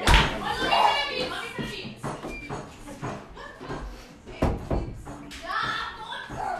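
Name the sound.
door being closed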